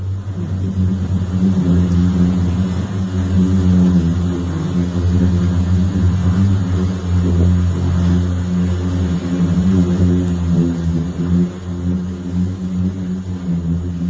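A loud, steady low hum from the singing sand dunes of the Eureka Dunes in Death Valley drones for the whole stretch, a deep buzzing tone with stacked harmonics and no pauses, something like an engine, with no voices.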